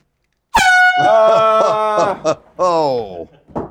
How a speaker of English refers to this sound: I wasn't ready for that air horn, monkey fans. Nobody's out there. Nobody's ever ready for the air horn.